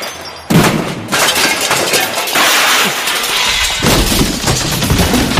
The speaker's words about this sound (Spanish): ¡Qué maravilla! Acaba de cargarse el pebetero. Acaba de cargarse el pebetero de un martillazo.